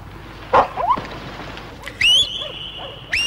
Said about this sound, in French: Paix, les chiens. Tenez, la voilà, notre coureuse. Lâchez les chiens